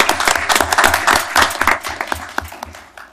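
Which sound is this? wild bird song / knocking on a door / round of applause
round of applause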